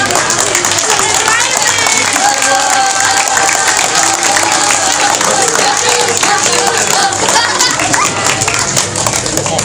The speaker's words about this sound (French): On s'applaudit.